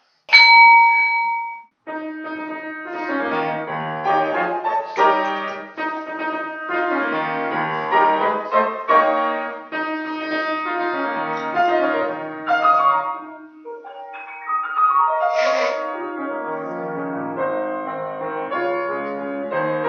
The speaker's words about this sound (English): So I'll sound the bell and we'll commence.